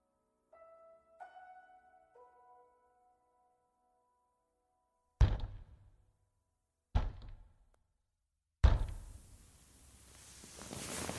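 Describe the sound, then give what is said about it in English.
Three heavy, widely spaced knocks or bangs on the front door, the last followed by a long rumbling roar. A few soft, sustained tonal notes come first, and nobody speaks. “Was that the front door?”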